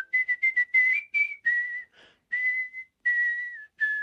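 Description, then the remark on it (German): A clear melodic whistle by a professional art whistler carries a catchy modern pop tune, starting with quick staccato notes and then gliding into longer held phrases with short pauses between, with no one talking. “Genauso wie auf moderne Popsongs wie zum Beispiel ….”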